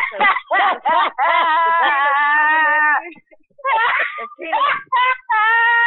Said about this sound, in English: …'s coming all lit together, screaming and hollering.